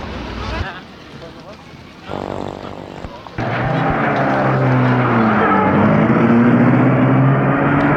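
A car engine cranks briefly, then roars to life and stays loud and steady, its pitch climbing as the car, with people just got in, pulls away from outside a railway station.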